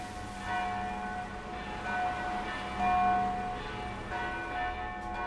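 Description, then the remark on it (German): Church bells of the city's Christian Orthodox Holy Trinity Church in Sighișoara (Schäßburg) ring for a funeral in slow, repeated strokes, their deep resonant tones overlapping and humming on between strikes. No voices, just the steady, mournful pealing. “Die Glocken läuten zu einer Beerdigung.”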